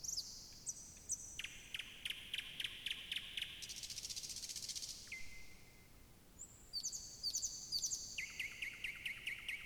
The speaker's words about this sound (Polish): Pojedyncza zwrotka pieśni Słowika Szarego składa się z większej ilości fraz niż u Słowika Rdzawego. Ostatnia fraza to zwykle charakterystyczny, suchy terkot.